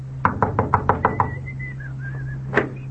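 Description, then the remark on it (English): A quick, even series of about seven knocks on a door, then one more knock after a short pause. A faint wavering whistle sounds between them over a steady low hum. “Or when spring rolls around, maybe this is the one who will knock at your door.”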